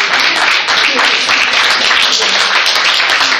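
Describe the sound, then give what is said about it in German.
An audience at an Action Pop event in Berlin breaks into steady, loud applause for a guest who came from the Swiss mountains, a dense wash of many hands clapping that holds evenly for a few seconds without pause. “Applaus für Benjamin.”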